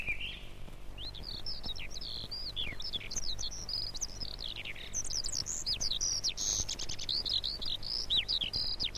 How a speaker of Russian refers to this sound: Свою первую песню поет дрозд. Слышите? Пока еще очень робко. Ведь он только-только прилетел к нам из южных стран.